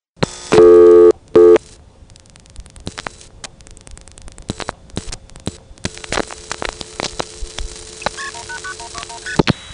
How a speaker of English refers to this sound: I'm going to try dialing 189-121.